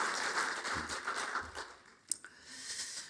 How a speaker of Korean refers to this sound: 우리 찬양대 찬양단 은혜스러운 찬양 부탁합니다 라고 하면서 우리 한번 격려의 박수로 한번 하시도록 하겠습니다.